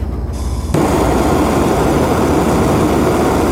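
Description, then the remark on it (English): A low rumble gives way abruptly to a loud, steady roar of a blowtorch flame used to brown slider buns in ghee on a boat, continuous, a broad hissing rush that holds unbroken to the end with no talking. “But I don't have a grill on my boat, so I'm going to have to use a blowtorch.”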